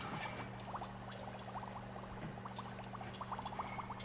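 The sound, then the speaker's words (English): Liquid in experiments bubbling steadily as it boils, with many small pops and gurgles scattered throughout over a low, constant hum, moderately quiet with no voices. “Just listen to my experiments boiling along.”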